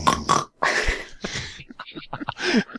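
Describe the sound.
A voice imitates Ursaring snoring in deep sleep with a series of rough, guttural rasps, three longer breathy snorts followed by shorter choppy grunts, fairly loud and with no other talk.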